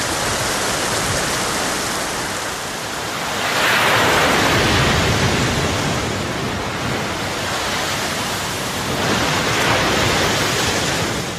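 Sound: ocean waves rushing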